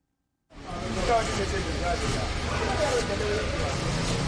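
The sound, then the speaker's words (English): Steady outdoor traffic noise with idling engines and a broad rumble: lines of cars waiting for gas during an acute fuel shortage in Abuja, with faint indistinct voices mixed into the background. “In Abuja, the lines of cars waiting for gas are growing longer.”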